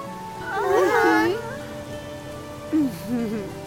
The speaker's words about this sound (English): Thankfully, the rain was starting to let up.